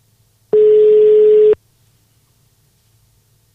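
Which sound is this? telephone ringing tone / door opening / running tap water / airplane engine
telephone ringing tone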